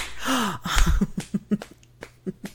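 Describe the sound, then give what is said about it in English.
A quick series of sharp slaps of a hand on bare skin, about seven in an uneven rhythm, following a brief low vocal moan at the start. “Oh, you want to slap it? Yeah? Then do it, baby.”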